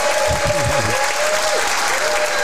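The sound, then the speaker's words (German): Steady, dense applause from an audience of about 250 spectators, a loud continuous wash of clapping hands throughout, with a few faint voices and whoops rising briefly near the start. “Vielleicht gebt da mal ein bisschen Gas mit euren Händen. Bisschen Applaus.”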